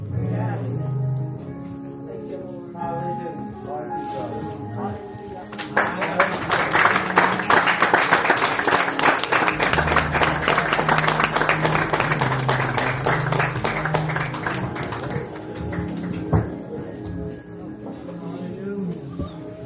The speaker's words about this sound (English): Clap your hand for the word.